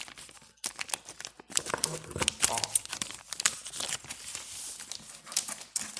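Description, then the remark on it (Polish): Sheets of plastic wrapping foil crinkle and rustle, an irregular stream of sharp crackles as they are gathered up and pulled apart while unpacking, with some papers lying on the foil. A faint murmur of voice surfaces briefly in the middle. “Już przy okazji nie patrzę, czy nic nie ma, a chyba właśnie na tej folii jest. Jakieś papiery, tak się wydaje.”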